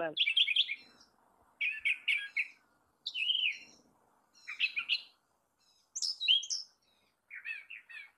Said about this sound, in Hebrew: ואחריו נשמע את הת'ראשר החום, שתנאי המחיה שלו כן השתנו. ממש שינה הפאזה לגמרי, זה הפך להיות יצור אחר.